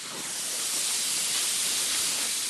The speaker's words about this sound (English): He's zipping a flattened hose through his gloved hands, scraping along the dirt and burnt brush. Hey, we got water!